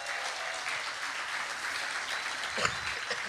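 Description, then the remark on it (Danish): An audience applauds steadily for a member of Bagstiv who is filming, a dense wash of many hands clapping at an even level, with a slightly sharper burst of claps near the end. “Men I skal lige give en stor hånd til Kent.”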